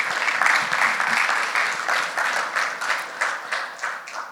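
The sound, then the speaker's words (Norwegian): An audience applauds steadily, a dense wash of many hands clapping at a fairly loud level that gradually thins into a few more distinct claps toward the end. “gi dem en applaus, så skal dere komme fram.”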